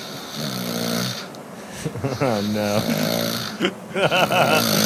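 A man snores loudly and close by, with long, rough, rattling breaths that rise and fall in a steady rhythm, some ending in throaty snorts, with no one talking.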